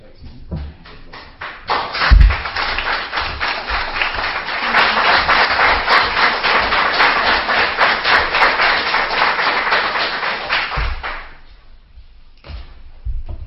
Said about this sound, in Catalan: Vale, pues aplaudo. Pues queda aprovada la proposta de retribució de l'alcaldia.